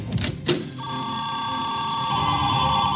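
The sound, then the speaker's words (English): A telephone rings with a sustained electronic trill, steady and fairly loud, preceded by a couple of brief clicks, with no one speaking over it. “The phone lines are lighting up.”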